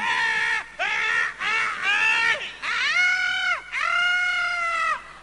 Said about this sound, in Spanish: ¿Y vos por qué gritás? Por solidaridad.